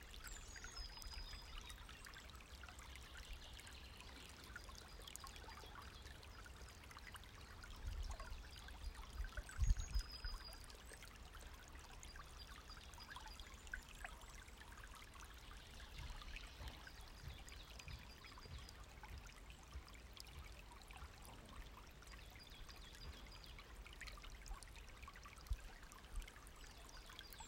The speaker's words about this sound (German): Und ständig fließt die Energie über deinen Atem weiter nach, so wie das Wasser hier in dem kleinen Bach.